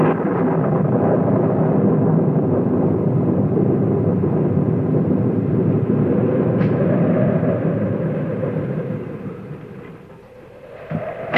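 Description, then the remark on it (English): A long, deep rumble of thunder from an approaching storm rolls on steadily for several seconds, loud, then gradually fades away near the end. No one speaks. “Yes, I heard the thunder.”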